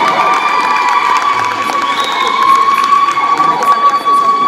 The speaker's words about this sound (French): Je poursuis avec, toujours dans l'originalité, messieurs dames, Kito Colin. Est-ce qu'on peut applaudir, s'il vous plaît?